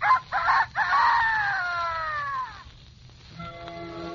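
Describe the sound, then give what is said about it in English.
Red the Rooster crows once, loud, a full cock-a-doodle-doo with a long falling final note, followed by a faint rustle of a picture book page turning. “He usually crows in the morning to wake people up. But when you hear him crow, you turn the page in your picture book like this.”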